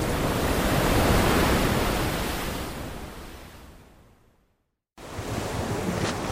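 An ocean wave rushes onto the shore and slowly recedes with a broad hissing wash, followed by a brief silence before another surge of surf begins. No voices are present.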